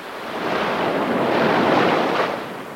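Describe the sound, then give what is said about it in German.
Sea waves break on a beach in a broad, steady roar of surf that swells and slowly recedes, with no voices present. “Das Meer in seiner Bewegung, wenn es tost, oder sich nur vereinzelt klitzekleine Wellen am Strand überschlagen und Schaumkrönchen ans Land spülen.”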